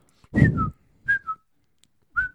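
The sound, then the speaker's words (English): Someone whistles an imitation of a Twitter notification: three quick two-note chirps, each a high tone stepping down to a slightly lower one, with breathy bursts at the start of the first. “That's the sound that a Twitter notification makes.”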